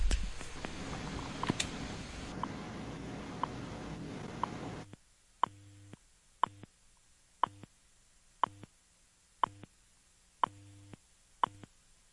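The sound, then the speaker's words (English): Short, sharp time-check ticks sound at a steady one-per-second pace over a quiet telephone line on a call to a time-announcement service, following several seconds of dense, hissy line noise; each tap is crisp and evenly spaced. “Okay, these little taps are basically time checks.”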